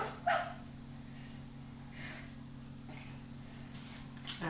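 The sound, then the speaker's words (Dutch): A dog gives one short, sharp bark near the start, followed by a few faint yips over a steady low hum, with no one talking. “Het is een hond. Wat? Ja, en die zegt waf, waf, waf.”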